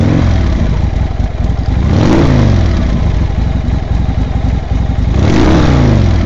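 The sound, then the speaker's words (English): Loud motorcycle engines of a bikers' gang rumbling and revving in a parking lot filled with motorcycles, with two distinct throttle surges that rise and fall in pitch over a constant low growl, no voices present. “When Lil arrived, she found the parking lot filled with motorcycles and surly bikers.”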